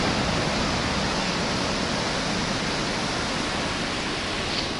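A steady, broad roar of sea surf washing against the shore, continuous and fairly loud with no distinct individual crashes, and no voices present.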